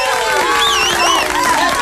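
A crowd applauds loudly and steadily, dense clapping blended with cheering voices and a few rising and falling whistles running throughout.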